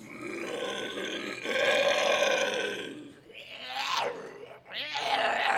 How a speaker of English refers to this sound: We do screeches that really reverberate in the vocal box, and that really tends to cause some stress.